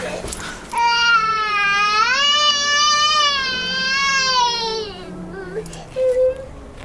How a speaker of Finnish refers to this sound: Eikö toi äiti saa tota lasta hiljaiseksi? Koko bussi kärsii tosta kitinästä. Nyt mä vaihdan kyllä paikkaa. Mä en jaksa kuunnella tota.